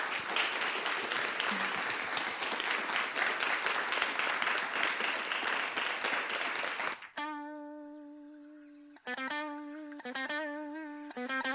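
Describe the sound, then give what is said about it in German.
An audience claps steadily and densely for about seven seconds for the panel speakers after a public discussion and questions from the audience, then the applause cuts off and gives way to a few sustained electronic musical tones. “Vielleicht können wir nochmal applaudieren für alle.”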